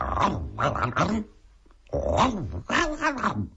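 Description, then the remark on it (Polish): A voice imitates the whimpering of Filip, a dog, as it runs off after Pimpuś swats it on the nose: a series of whiny, rising-and-falling yelps in several loud bursts, with a brief pause before two more drawn-out whines. “Filip w nogi, wróble w górę, Filip skomli, wróble wrzeszczą, pszczoły, osy, muchy, trzmiele oburzone gniewnie brzęczą.”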